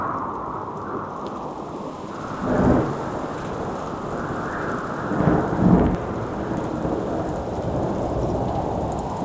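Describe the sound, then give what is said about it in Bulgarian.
A thunderstorm with steady, dense rain hissing throughout, broken by two deep rumbles of thunder, the second rolling longer and louder. No voices are heard. “Но ето, че страшна буря се извива в долината на слънцето. Гръмотевици се посипват над стелещата се черница”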